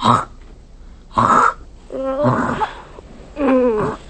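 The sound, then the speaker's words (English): Someone loudly hocks up a loogie to spit into a glass of juice: two harsh, raspy throat-clearing bursts followed by longer gurgling, voiced hawking sounds, with no other talk. “I got a big loogie and I spit it right in your juice.”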